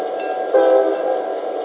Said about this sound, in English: Hey, look, here comes that passenger train now.